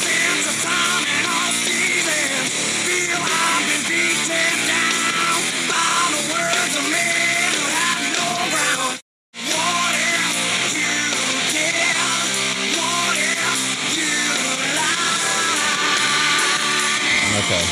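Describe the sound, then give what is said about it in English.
A loud, hard-hitting rock song plays at full, dense volume throughout, cutting out for a brief moment of silence midway before crashing back in with the same driving intensity. “It's a hell of a number. It's on the Scream 3 soundtrack, I believe.”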